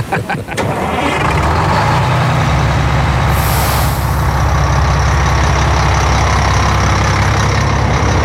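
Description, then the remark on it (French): A tour bus for American tourists at the source of the Jordan River in the Holy Land: its engine rumbles deep and steady, with a sharp burst of air-brake hiss breaking through midway before the idle carries on; no one speaks. “Time to go back to the bus.”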